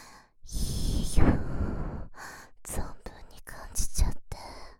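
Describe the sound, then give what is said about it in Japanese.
A young woman's breathing very close to the microphone: a long breathy exhale followed by several shorter, airy breaths and soft sighs, intimate and near-whispered, with no other sounds. “お兄さん、お兄さんは童貞だから、こんな耳元で女の子の息遣いを感じることもなかったでしょう。”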